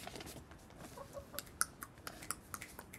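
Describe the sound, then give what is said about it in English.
A chicken clucks softly in a series of short, irregular clucks and sharp peeps, over a quiet background with no talking. “There's a chicken staring at me right now.”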